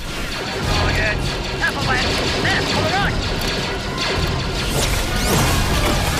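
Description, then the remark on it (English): A tri-droid battle robot struck with a lightsaber bursts apart in a loud, crunching explosion amid continuous crashing and metallic clatter, with electronic whirs and chirps cutting through a dense, chaotic din. “The tri-droid explodes and Anakin vaults onto another.”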